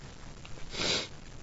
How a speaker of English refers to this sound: caught this on the tail end and already sneezed about 8 times.